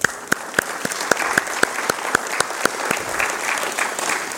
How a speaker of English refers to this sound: And so you need to give him an applause there, because he did about 10 to 15% of the work.